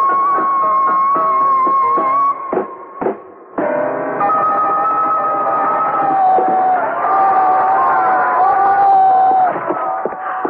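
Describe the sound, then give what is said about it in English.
A large theater crowd cheers loudly and steadily after a show, with whoops and shouts rising above the roar. The noise dips briefly near the start, then swells back and carries on without a break. “Oh, the hometown crowd is always the best.”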